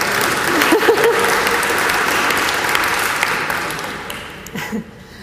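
An audience applauds, a dense, steady wash of clapping that holds for about four seconds and then thins out and fades, with a few scattered claps at the end.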